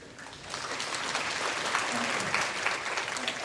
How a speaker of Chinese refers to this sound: 让我们掌声欢迎上官林杰应用技术开发经理。